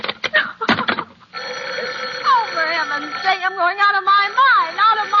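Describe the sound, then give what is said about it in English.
A telephone bell rings briefly at the start, a rapid metallic rattle of strikes, then stops as a voice begins talking with rising and falling pitch. “Hello, hello, stop ringing, do you hear? Answer me, who is this?”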